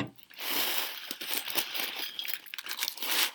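Rice cereal crackles and snaps in milk as the milk is absorbed into the dried cereal's tiny air pockets and puts pressure on them, a dense, steady fizz of tiny high-pitched pops and clicks that runs unbroken for a few seconds, soft in level, with no talking.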